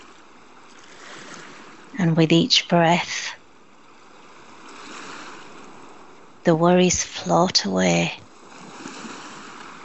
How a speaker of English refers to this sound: You're sitting on the warm sand. It's not too hot. Not too cold. Breathe in. Breathe out. You can feel the warmth of the sun against your skin. Hear the waves.